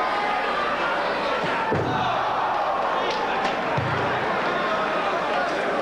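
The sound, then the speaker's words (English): Two heavy steel-chair slams land a couple of seconds apart, loud, as a chair is driven into a wrestler's face during a wrestling match, after a rolling Arabian facebuster, over a constant roaring crowd of cheering and shouting voices. “Rolling Arabian facebuster. And a chair to the face.”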